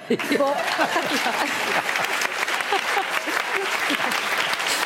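Sustained audience applause, a dense wash of many hands clapping at a steady loud level for the whole stretch, with a few scattered voices and cheers mixed in.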